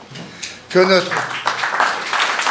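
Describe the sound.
Spontaneous audience applause breaks out after a brief pause at a formal presentation of a scholarship candidate's work, a dense, steady wash of clapping that continues to the end, with a voice heard briefly as it begins.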